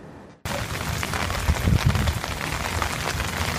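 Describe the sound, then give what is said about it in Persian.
Heavy rain pours steadily onto a hard surface in the US state of South Carolina, a dense hiss full of splattering drops that cuts in abruptly after a brief near-silent moment, with a faint low rumble underneath. “فرماندار کارولینای جنوبی میگوید که بارش باران های سنگین در این ایالت در دهه های اخیر بی سابقه بوده.”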